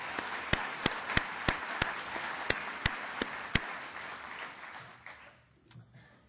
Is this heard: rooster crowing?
no